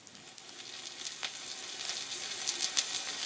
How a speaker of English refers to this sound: But you remember... here's some rain.